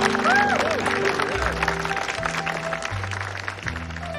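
Steady applause fills the scene while a couple of voices whoop and cheer near the start, with soft music playing underneath throughout.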